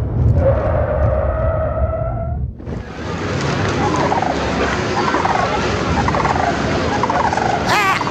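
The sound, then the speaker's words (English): A bald eagle cries out in a loud, harsh, warbling call, then a burst of wing-flapping and scattered squawks as it swoops at a man's popcorn at Comiskey Park, with no voices. “This bald eagle's endangering my hair.”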